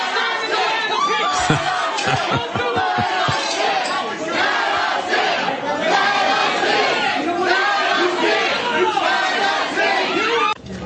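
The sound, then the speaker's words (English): A dense, agitated crowd shouts and yells throughout as people struggle over a glass door, pulling on both sides, while a rapid series of sharp banging impacts rings out early on as the glass door is shattered to pieces. “Look at this struggle for the door, glass door. People are pulling out both sides, shatter it to pieces.”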